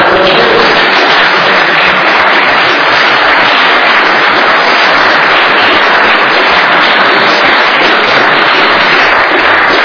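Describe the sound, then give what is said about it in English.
Sustained applause from a sizable audience for the panel, a dense, steady wash of many hands clapping at once, loud and continuous for the full ten seconds with no voices standing out. “And give a round of applause, please, to the panel, as well as Michael Lewis, who did leave early.”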